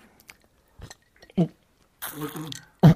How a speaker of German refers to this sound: Oh, er spuckt Eiswürfel. Eiswürfel, ja.